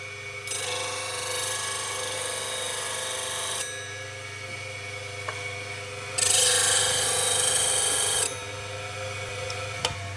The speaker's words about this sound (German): Also ich hebe den jetzt an die Schleifmaschine und die Schneide, die halt stumpf ist von vorher, die versuche ich jetzt wieder Rasiermesser scharf zu machen.